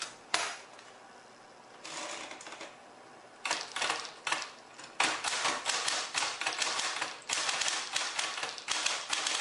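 machine, electric typewriter typing

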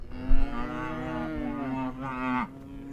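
animal, cows mooing

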